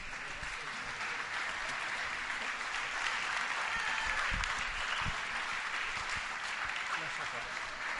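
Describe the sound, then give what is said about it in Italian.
Sustained audience applause at an event in Barcelona, a dense, steady patter of many hands clapping at an even loudness for several seconds, with a few faint voices underneath. “Quindi niente di più, niente di meno, un applauso”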